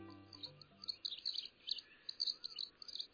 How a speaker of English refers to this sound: The red-backed fairy wren is a tiny, perky songbird that lives in the scrublands of northern and northeastern Australia. It's highly territorial.